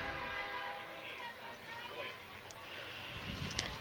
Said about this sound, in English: As the train goes through Maple Lake.